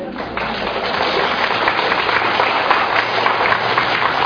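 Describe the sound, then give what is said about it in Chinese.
A lecture audience applauds steadily for about four seconds, a dense, loud wash of many hands clapping at once with no clear rhythm and no voices. “好了，人家鼓掌你也跟着鼓掌，你也不知道他在鼓掌什么。”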